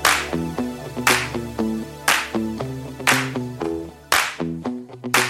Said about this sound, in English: I'm going to start a slow clap in my bedroom by myself and see if anyone joins in.